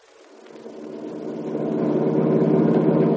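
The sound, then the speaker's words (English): A truck engine rumbles and revs up, its low, throbbing drone growing steadily louder and rising in pitch as it gathers speed, with no voices. “Oh, the truck's just super”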